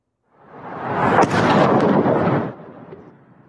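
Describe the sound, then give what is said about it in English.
A heavy, booming blast from a drone attack on Moscow, Russia, swells up and rumbles for about two seconds, with a sharp crack near the start, then fades into a lingering low roar. No one speaks. “There was a deafening bang as if a huge bolt of lightning had struck somewhere near.”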